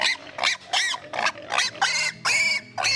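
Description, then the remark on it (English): A pig squeals loudly in a rapid series of shrill, high-pitched bursts, about seven cries in three seconds with brief gaps between them, and no talking, as it is given an injection in the ham. “By that, I mean we're giving a pig a shot.”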